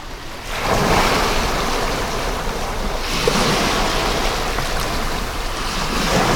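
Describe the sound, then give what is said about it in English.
Steady rushing ocean waves fill the scene, swelling and easing in broad surges, with gusty wind buffeting the microphone throughout and no voices. “I see the ocean now from your viewpoint.”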